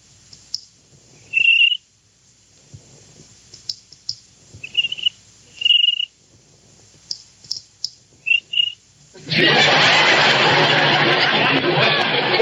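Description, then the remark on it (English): High, squeaky cricket chirps come in short bursts among soft tapping clicks, loosely keeping a beat, before a loud, steady hissing rush abruptly takes over the final few seconds. “How do you like that? A cricket with rhythm.”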